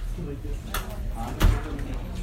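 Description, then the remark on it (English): A door opens during a class: a short scrape, then a solid thud with a low knock, over a steady background hum and faint murmuring voices. “Is it, if we open the door, do you think it'd be cooler?”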